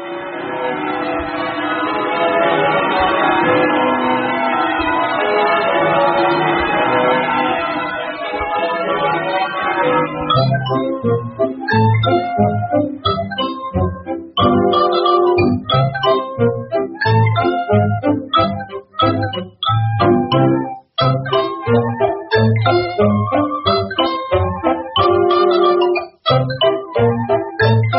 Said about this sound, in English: do they really ring the bells at the big church on Christmas Eve? Yes, my pet. Now, you'll just close your eyes, and you'll hear them any minute now. The Christmas bells ring in for Christmas.